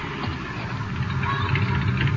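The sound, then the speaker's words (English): A car engine rumbles with a low, steady drone, swelling slightly louder as it draws nearer over a couple of seconds, with no voices. “There's a car coming.”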